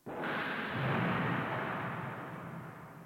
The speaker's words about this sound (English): And the day dawned with thunder and lightning. Cue the thunder,